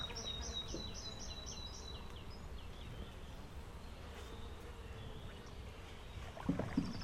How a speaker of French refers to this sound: Et déjà, tu entends avec l'eau en fait. Le son est porté par l'eau et amplifié par l'eau. Et du coup, on entend très bien tous les chants des oiseaux, finalement.